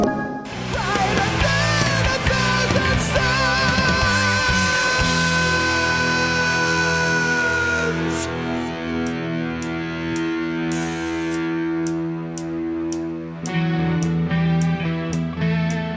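A rock singer holds a long, high sustained note that nearly cracks, carried over loud distorted guitars and drums, with sharp drum hits punctuating the final seconds.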